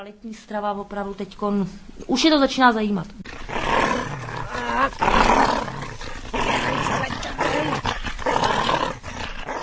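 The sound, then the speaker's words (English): A dog growls playfully during a harmless game with its owners, starting with a few pitched, whining yowls and then settling into rough, rumbling snarls that roll on continuously, loud. “This is not a wild beast, but a dog called Sam, engaged in a harmless game with his owners”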